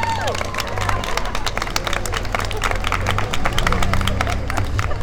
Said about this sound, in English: He holds the megaphone to his mouth and... "It's never too late to say sorry!" The crowd breaks into applause.